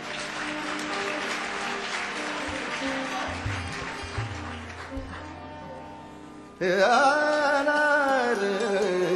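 A crowd applauds steadily for several seconds, a dense, fairly loud wash of clapping that fades slightly before a voice abruptly starts singing with musical accompaniment.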